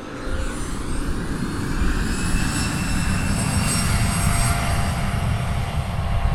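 An airplane's engines roar steadily as it takes off from a runway at the Rhinelander Oneida County Airport, a dense low rumble topped by thin, high-pitched turbine whines that hold for several seconds. No one speaks.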